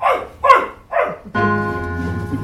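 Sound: dog barking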